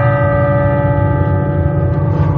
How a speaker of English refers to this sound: Steeple clock strikes twice.